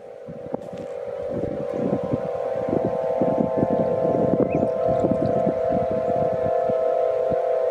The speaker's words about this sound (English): And that's what we're listening to right this minute, which is a recording that you made of the wind blowing through the harp. Let's just listen for a moment.